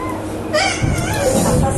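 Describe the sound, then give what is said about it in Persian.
A tired young child fusses and cries during a lesson, in wavering, whiny bursts that start after a brief pause and continue steadily, fairly loud over a noisy background. “بچه خسته شده، این حق داره الان. این بچه حق داره الان، نباید بهش چیزی بگید.”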